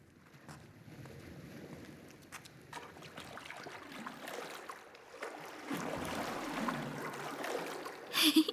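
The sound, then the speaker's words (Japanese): Someone wades through shallow sea water with their clothes on, the water swishing and sloshing steadily around them, growing louder and busier toward the end with a couple of sharper splashes. “大丈夫、ここの海浅いし、それに服のまま入っても乾くからね。”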